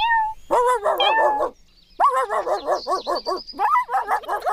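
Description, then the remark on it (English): A brief cat meow leads into a run of quick dog barks and yips, a short pause, then another rapid burst of barking. No one speaks. “And the dog and the cat.”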